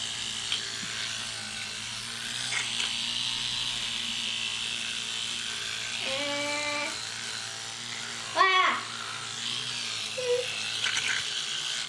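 A girl whimpers twice over the steady buzz of an electric toothbrush, not wanting to put black stuff in her mouth: first a short wavering whine, then a sharper falling whimper, both brief and fairly soft against the constant drone.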